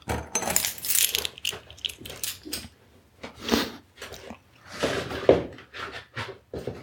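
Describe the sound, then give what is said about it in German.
Keys jingle and clink in a series of bright, uneven metallic rattles as they are picked up and handled before heading out, with no one speaking. “Schlüssel, genau, Schlüssel brauche ich noch.”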